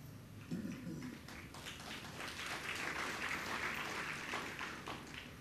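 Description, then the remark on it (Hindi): An audience claps together in a dense, steady round of applause, a crackling wash of many hands that holds at an even, fairly loud level for about five seconds. “ताली बजाया है तो उस ज्ञान को अभीक्षण बनाने का प्रयास करो।”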